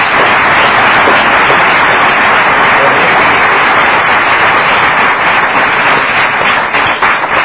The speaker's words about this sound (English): Let's give him another big hand.